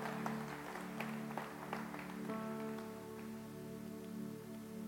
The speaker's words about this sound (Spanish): Va, puedes dar un fuerte aplauso a Dios por eso.